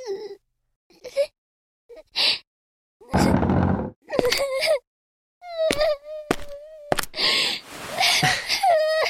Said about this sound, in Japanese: 泣いてるの？